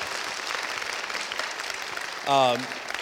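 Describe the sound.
Steady audience applause for a rabbi at a church gathering, a dense wash of many hands clapping at moderate loudness, with a brief voice cutting in near the end.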